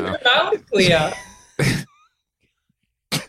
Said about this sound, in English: She just coughed right again.